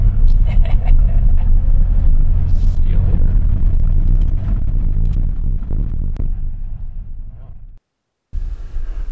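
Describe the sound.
A pickup truck maneuvers out of a meadow parking spot and rolls along a rough road, its engine and tires making a loud, steady low rumble with scattered rattles and bumps. Faint muffled voices may be mixed in, and the sound briefly cuts out near the end.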